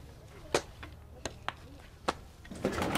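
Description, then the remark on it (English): A door is unlocked and opened: a series of sharp metallic clicks and clunks from the lock, then a louder scrape and rush as it swings open, with no voices. “Open this door at once or we'll break it down!”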